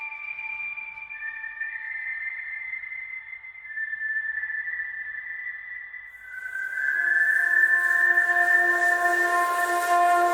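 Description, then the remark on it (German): A steady, high-pitched whistling tone holds for about ten seconds, shifting slightly in pitch and growing louder and breathier with a hissy edge in the final few seconds. “Und dabei habe ich immer wieder gedacht, vielleicht müssen zuerst einmal möglichst viele dieses Pfeifen hören.”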